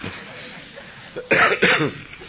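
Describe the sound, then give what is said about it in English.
Two forceful coughs in quick succession, loud and harsh, from a speaker who has a cough, following a moment of quiet background hiss. “I have cough.”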